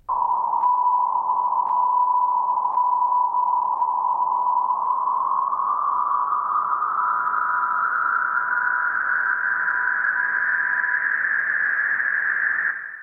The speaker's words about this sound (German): Das folgende Beispiel von Markus Spieß veranschaulicht den Maskierungseffekt. Der zunächst klar hörbare Ton wird nach und nach vom Rauschen verschluckt und ist schließlich kaum noch wahrnehmbar, obwohl er die ganze Zeit über präsent bleibt.